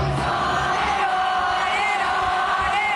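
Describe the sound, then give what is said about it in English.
A large crowd at a rock band's concert at the Houston Livestock Show and Rodeo in NRG Stadium sings together in unison after the stage power went out, a dense, loud wash of many voices holding sustained melodic lines over a steady roar, with no instruments standing out. “The crowd continued singing, then crew members rushed the stage with a fire extinguisher and everyone was evacuated.”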